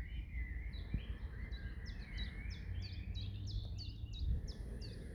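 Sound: birds singing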